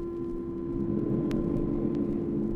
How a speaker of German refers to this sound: Macbeth von William Shakespeare. Eine Heide, Donner und Blitz, 3 Hexen.